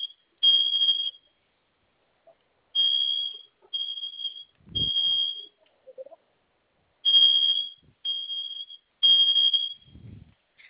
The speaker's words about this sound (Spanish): Vamos a realizar una pequeña prueba, ¿sí? Va a mantener presionados los dos botones con la figura de la flama. Okay. En cuanto suene la alarma, va a ingresar la clave que usted escogió. De acuerdo. Esa alarma en un momento se quita.